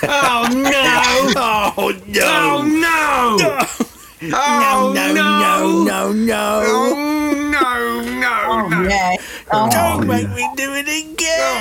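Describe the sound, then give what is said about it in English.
A person loudly imitates a chimpanzee, letting out a long run of hooting, wailing yells with rising and falling pitch glides, broken by a few brief pauses for breath. “And most chimps can vocalise the phrase, oh no. And she said they like to yell it while they defecate.”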